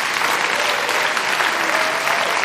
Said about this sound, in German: Auf jeden Fall können wir Ihnen schon mal danken, dass wir diesen wunderbaren Abend bei Ihnen in Krefeld verleben durften. Vielen, vielen Dank, dass wir da sein durften. Mal einen kleinen Applaus und auch für Sie selber und für das Team von der KUFA.